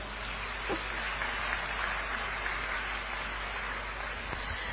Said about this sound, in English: So give yourself a round of applause.